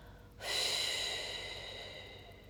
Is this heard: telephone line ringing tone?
no